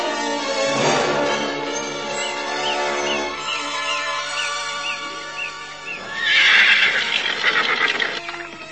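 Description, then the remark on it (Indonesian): A horse ridden hard toward Mataram neighs loudly, a long quavering whinny with a wavering pitch, followed by a second brighter, shriller burst near the end. No talking. “Ki Warih melarikan kudanya sekencang-kencangnya langsung menuju ke Mataram”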